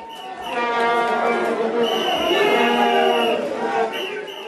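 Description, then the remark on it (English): A dense, droning blare of many vuvuzela horns at South Africa's World Cup, a loud buzzing, reedy tone held steadily for several seconds with a faint crowd murmur beneath. “The sound of the vuvuzela.”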